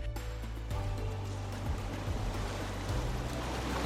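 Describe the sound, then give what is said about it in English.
A steady, continuous rush of ocean surf washing in on the sandy shore at Phillip Island at dusk, loud, with a low rumbling drone running underneath and no voices. “When all sounds subside, only the waves and tiny footsteps on the sand remain.”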